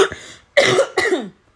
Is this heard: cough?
yes